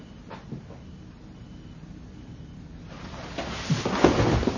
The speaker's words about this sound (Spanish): Cierra la puerta.